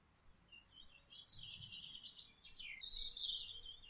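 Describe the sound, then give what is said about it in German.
Birds chirp and sing continuously outdoors in a meadow, a busy chorus of high, quick warbling notes over faint low background rumble, with no talking. “Verbinde dich mit der Natur, mit der Welt, mit den Vögeln und der warmen Erde.”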